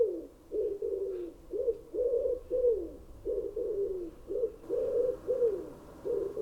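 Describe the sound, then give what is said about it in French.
A wood pigeon coos in low, husky notes, repeating its five-note phrase twice in a steady rhythm, clear over a soft outdoor background. “Et voici le pigeon ramier avec ses 5 notes graves.”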